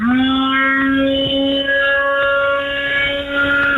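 An electric blender runs steadily at a higher speed, its motor giving off a loud, unbroken whine with a buzzy, harmonic-rich tone and no voices over it.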